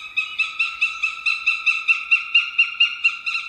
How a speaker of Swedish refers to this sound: Nu är vi inne i en djup skog och från en trädkrona hör vi en duvhök. Det är inte olikt havsörnens kacklande läte som vi hörde i början och som kommer här igen.